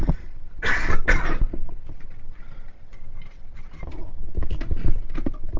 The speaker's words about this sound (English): I've got a tickle on the throat, so I'm going to take the headphones off and cough and have a drink of water.